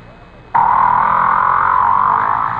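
A whale call starts abruptly and holds as a loud, steady, buzzing moan with a slight wavering pitch, continuing unbroken for about two seconds with no talking.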